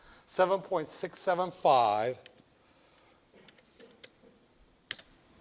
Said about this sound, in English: Grabbing a calculator here and hoping that I don't screw up as I usually do, hitting the keys.